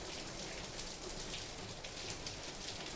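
Heavy rain pounds steadily on a roof, a dense, continuous, enveloping hiss of drops with no pauses and no voices.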